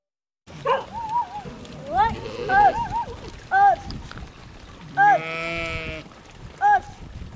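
A herd of goats, driven along in a cloud of dust in southern Israel between Arad and the Dead Sea, bleats repeatedly, several wavering cries overlapping, with a steady background rumble and scattered noises between the calls.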